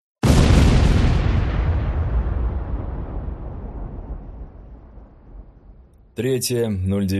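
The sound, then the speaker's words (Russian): A single loud RPG-36 rocket-propelled grenade explosion bursts, then its heavy rumble rolls and slowly fades for several seconds before a voice starts speaking. “Следующие его слова потонули в грохоте взрыва.”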